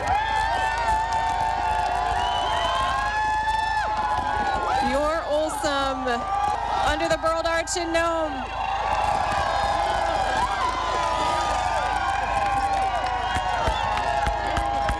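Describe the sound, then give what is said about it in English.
A large crowd lining Front Street in Nome cheers and shouts continuously as a sled dog team enters the finish chute of a 1,000-mile sled dog race, with scattered whoops and raised voices swelling in the middle, while a man talks over the steady, loud roar. “The crowd is stretched all the way down the street close to the state office building on Front Street in Nome.”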